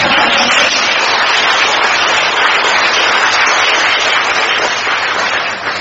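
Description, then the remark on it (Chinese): A crowd applauds steadily, a dense, continuous wash of clapping from many hands that stays loud throughout before easing slightly at the very end. “你们也用不着啊谦虚啊，说准的么多，鼓鼓掌就可以。”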